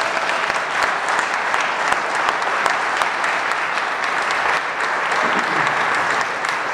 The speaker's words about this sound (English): They're acting really, really shy right now. So let's give our students a round of applause.